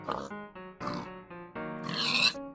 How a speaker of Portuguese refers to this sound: Ele viu um chiqueiro para 10 porcos e os porcos dentro do chiqueiro.